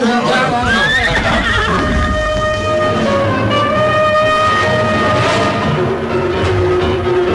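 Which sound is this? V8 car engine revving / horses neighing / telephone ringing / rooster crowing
horses neighing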